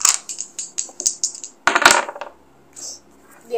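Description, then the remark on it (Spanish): Dice, a proficiency die and a success die rolled for an insight check against a target of 14, clatter across a table in a quick run of sharp, bright clicks, then a louder rattling burst before they settle; a couple of soft sounds follow after the dice come to rest. “Un dado de proeza y un dado de éxito.”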